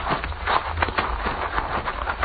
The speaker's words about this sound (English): We will lead the horses up, Pancho, but keep your eye on that hombre.